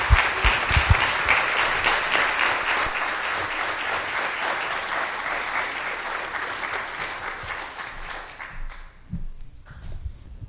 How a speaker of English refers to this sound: And if we can just get a round of applause for these awesome volunteers.